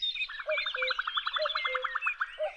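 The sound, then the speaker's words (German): Several songbirds sing at once in spring in Germany, fairly loud: a fast run of repeated chirping notes under higher, bright whistles and trills, forming a busy, overlapping chorus with no voices. “Jetzt, im Frühling, sind sie besonders fleißig am Singen. Das große Vogelorchester ist in voller Besetzung.”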